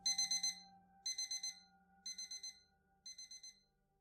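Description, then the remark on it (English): An alarm clock beeps at 3:33 a.m. in quick bursts of about five high-pitched pulses, repeating once a second four times, loud, over a faint steady hum. “Until the clock hit 3:33 a.m.”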